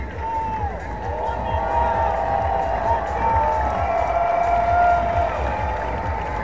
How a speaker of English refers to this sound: And they just put it up on the video board here. And a nice round of applause from the fans with Wyatt Langford, first Rangers rookie to hit for the cycle since 1985. That's awesome.